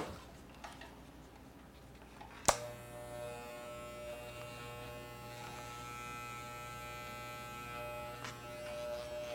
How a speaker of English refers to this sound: We're gonna cut Nicole's hair right now. We're gonna buzz it with one of these things.